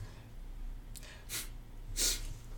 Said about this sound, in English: He's angry and out of breath. That's why he's huffing.